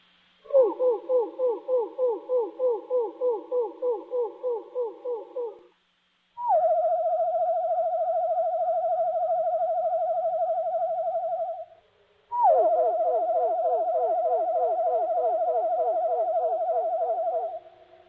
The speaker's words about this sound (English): That's one of the least exciting of the songs that the wood thrush does.